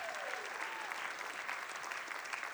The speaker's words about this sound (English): Can we just give him a hand clap this morning?